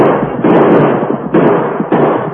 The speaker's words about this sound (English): Within range? Almost. I want them to hear our guns.